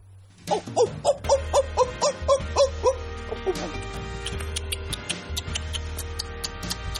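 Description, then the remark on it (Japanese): Sparrow chirping: about nine short, bright chirps in a quick, even run, then fainter, sharp clicking peeps continuing against a low background hum. “それなんすかね、完全にスズメでしたね。スズメだったよね。”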